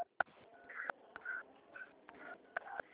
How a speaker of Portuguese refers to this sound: a senhora está apertando o botão do telefone, eu não estou conseguindo te ouvir.